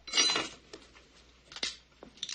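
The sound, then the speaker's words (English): Pieces of a broken wine glass clink and rattle as a woman picks them up and drops them into a satchel: a bright jangling burst first, then a few lighter scattered clinks, with no voices. “She picks up a broken wine glass and puts it in the bag.”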